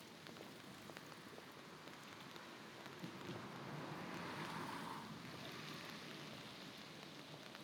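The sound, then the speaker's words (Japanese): Steady winter rain falls and patters on a surface, a continuous dense hiss with scattered drops, swelling slightly louder midway. No voices, just the rain. “冬の日の雨、雪より寒く感じる。”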